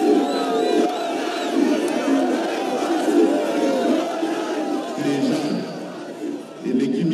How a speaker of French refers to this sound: Le président Félix Tshisekedi y assiste, c'est lui le fils de l'opposant historique que la foule acclame.